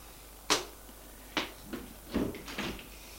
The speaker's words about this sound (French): Le garde se dirige vers la porte capitonnée. Il appuie sur un bouton. Un voyant vert s'allume. Il ouvre la porte et entre.